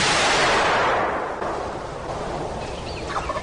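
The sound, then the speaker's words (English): A single loud shotgun blast, fired at a bronze turkey gobbler during a turkey hunt, opens, then its echo rolls away across miles of hills and hollers and fades over a second or two. Faint, high bird calls follow near the end. “The sound of the shotgun echoes across miles of hills and hollers.”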